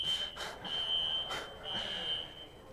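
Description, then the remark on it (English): A smoke alarm set off by a child sounds a shrill, steady high-pitched tone that drops out once briefly, with muffled voices and room noise underneath. “Okay, one of our kids set off the fire alarm.”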